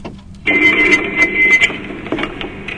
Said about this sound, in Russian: У нас есть телефонный звонок.